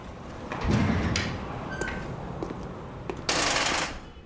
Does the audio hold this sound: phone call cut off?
no